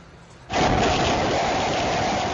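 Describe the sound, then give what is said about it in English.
Hurricane Ida with heavy rain in Lockport, Louisiana, surges in abruptly after a brief quieter moment, becoming a loud, steady roar of wind and pounding rain that stays unrelenting, with no voices. “Terrifying sounds of Ida.”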